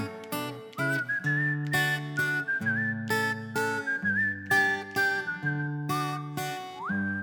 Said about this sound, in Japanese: 口笛